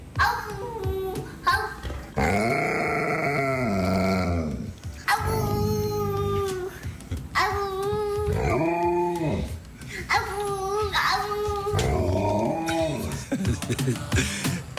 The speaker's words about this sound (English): All right, our top story, a howl-off between a little boy and his Alaskan Malamute. Oh, this ought to be good. Yeah, let's give this a listen.